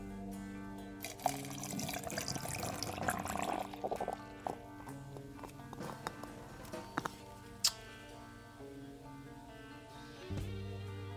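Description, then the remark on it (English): Hop Slayer double IPA beer from Illinois, a little over 8% alcohol, glugs and splashes into a glass for a few seconds, then quiets to faint fizzing with a couple of small clinks, all over a steady low electrical hum. “This comes from Illinois, and I'm going to pour it into a glass tonight.”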